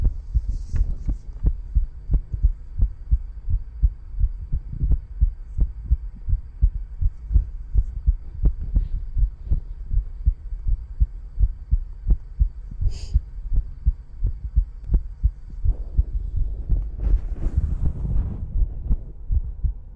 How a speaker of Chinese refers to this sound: 你们吸血鬼的心跳比你们人类的要快很多呢，对吧？